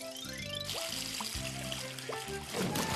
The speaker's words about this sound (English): Ducky makes bubbles. Lots of bubbles. Big bubbles. Maybe this can help you make more.